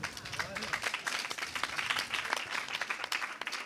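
An audience applauding steadily as panel guests are introduced at an education event, many hands clapping in a dense, continuous patter at moderate loudness with no voices standing out.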